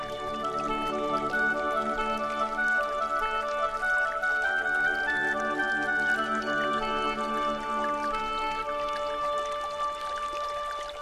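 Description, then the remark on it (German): A babbling brook flows over stones in a steady, unbroken stream of water sound, neither slow nor fast, even in level, with a faint sustained tone running underneath, beside reeds as the sun breaks through the clouds. No one speaks. “Ich lausche dem Plätschern des Baches.”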